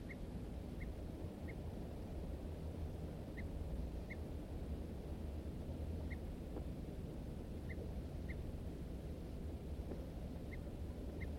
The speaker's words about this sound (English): M4 responds with alarm notes. Both birds now giving alarms.